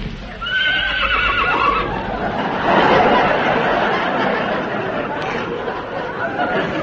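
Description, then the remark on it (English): A horse whinnies once, a high, quavering neigh that slides downward over about a second, followed by a steady wash of noise and faint clopping hooves. “Well, the horse seems to think you're all right.”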